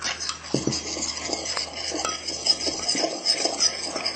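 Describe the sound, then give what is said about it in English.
A spoon stirs baking soda into milk in a bowl, with a steady swishing scrape and a few sharp clinks against the sides, continuous for a few seconds with no voices. “Okay, now I'll mix that round.”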